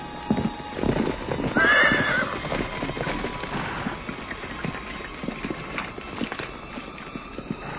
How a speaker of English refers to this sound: That's a mighty nice horse you got there, mister. Would you sell him?